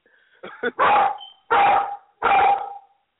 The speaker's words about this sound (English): Yeah, what is he barking at?